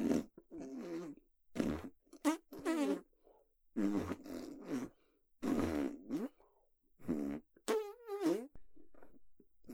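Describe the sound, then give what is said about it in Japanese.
A run of deliberately pushed-out fart sounds, roughly eight separate blasts of varying length: some short and sputtering, others drawn out and buzzing, fairly loud, with brief silences between them and no talking. “音の出ない、とても臭い臭いおなら頑張って出せーって。”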